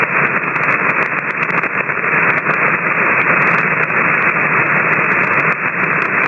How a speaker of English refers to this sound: Okay, I'm catching a lot of static crashes right now, so please give me that call one more time and let's see if we can pull you out.